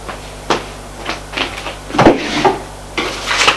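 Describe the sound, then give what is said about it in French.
A woman opens wooden desk drawers: they slide and bump open in a quick series of knocking and scraping sounds, with rustling between them and a low steady hum underneath. “Puis ouvre les tiroirs du bureau.”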